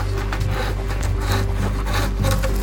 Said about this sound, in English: This is probably one of the better tools to master, the draw knife and the shaving horse.